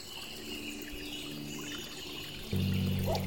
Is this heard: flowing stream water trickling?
yes